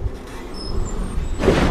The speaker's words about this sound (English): Empty train cars roll along tracks and snap together. A crane moves alongside, grabs a container,